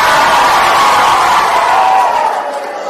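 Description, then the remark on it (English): A group of children at a Bible quiz cheers and shouts together for the girls' team in a loud, sustained burst of high-pitched voices that fades slightly toward the end. “Give me a cheer.”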